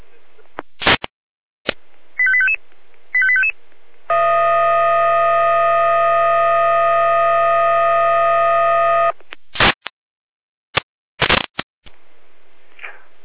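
A radio dispatch alarm for a fire brigade in Jena, sent out for several fallen trees on road L1070: two short warbling beeps, then a loud, steady, buzzy tone held for about five seconds, framed by sharp radio clicks and static bursts.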